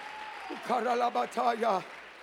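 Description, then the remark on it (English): A church audience claps hands to magnify the Lord in a steady, dense wash of sound while a voice breaks in with loud, drawn-out shouts over the clapping. “Oh, clap your hands and magnify the Lord.”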